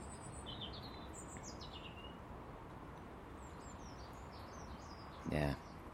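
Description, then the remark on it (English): A blackbird chirps with thin, descending notes against a steady outdoor background, then lets out one loud, harsh call near the end. “Thank you, Mr. Blackbird, just about took my ear off.”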